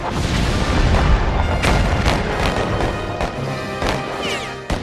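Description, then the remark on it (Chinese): Heavy cannon fire from Confederate gunboats around a harbor booms repeatedly over a dense, continuous rumble, with several sharp blasts landing a second or so apart amid the din of battle, the gunfire signaling the start of fighting. “而同时，港口对面的邦联炮舰亦做好准备，他们的炮声就是开战的信号，港口周围的其他炮舰会一起投入战斗。”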